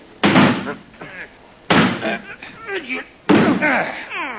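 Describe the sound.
Three heavy, booming thuds against a locked door at steady intervals, as police, including a gendarme, ram it with their shoulders, each impact followed by strained grunting voices.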